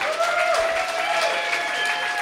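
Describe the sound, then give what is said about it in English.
An audience at a mattress giveaway with Mattress Mick claps steadily in a dense, sustained wash of applause, with faint tonal whistling or cheering threading through it at a constant loudness. “Big round of applause.”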